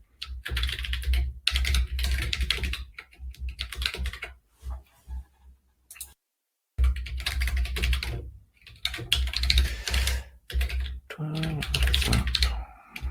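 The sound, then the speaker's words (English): Rapid, steady typing of an answer on a computer keyboard, with dense clattering keystrokes broken by brief pauses and one short silent gap, over a low background hum. “Sorry, just typing the answer right now.”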